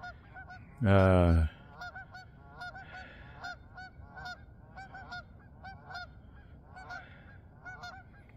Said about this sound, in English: There's the alarm call of the geese, and the gulls decide to listen to them. But then they realize that there is really nothing to fear because we are not trying to harm them in any way.